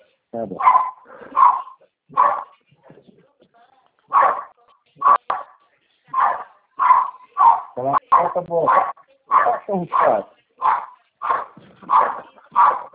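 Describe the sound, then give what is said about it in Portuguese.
Several small chihuahuas bark and yip in a rapid, high-pitched series of short bursts, fairly loud, with a few whimpering whines mixed in between the barks. “Você tem cachorro?”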